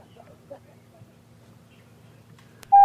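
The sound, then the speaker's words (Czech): A low background hum and faint murmuring, then a sharp click followed by a sudden, loud, steady electronic phone-line tone right at the end, as a telephone call is put through on air. “Mám tady telefon, zkusím ho dát do vysílání.”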